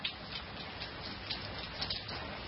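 Steady rain falls in a dense, even hiss, with scattered drops pattering on a surface. The sound is continuous, with no voices present.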